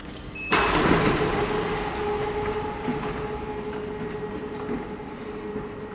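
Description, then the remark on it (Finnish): A sheet-metal roll-up door in the underground tunnels inside the Viikinmäki bedrock rattles open with a sudden start, then a steady grinding clatter and faint motor whine that carry on throughout, with no one speaking. “Mikäs tuon peltisen nosto-oven takana löytyy?”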